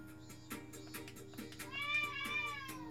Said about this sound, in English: Or an angry cat.